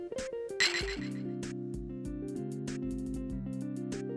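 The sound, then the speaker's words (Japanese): A bright clink of glasses of soda touching in a toast rings out early, once, over steady background music that carries on afterward. “乾杯。”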